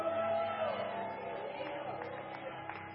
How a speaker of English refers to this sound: Me gusta cuando la gente grita. I like it when people yell. Me gusta cuando abre su boca. I like it when people open up their mouths.